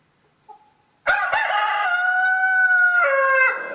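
A rooster crows once, loud, a long harsh cock-a-doodle-doo lasting over two seconds that dips in pitch near the end, preceded by a faint short chirp.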